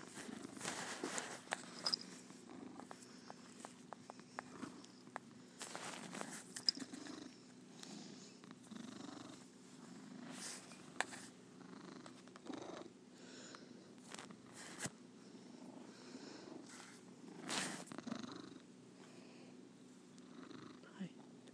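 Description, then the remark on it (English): A male domestic cat purrs steadily while ducking his head, a continuous low rumbling drone with rhythmic pulses, broken by occasional soft rustles and sniffs, with a person speaking quietly at times. “You're a good kitty.”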